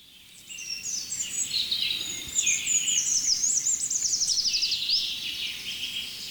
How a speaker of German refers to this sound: Jetzt fängt der Buchfink wieder an. Das ist der neue.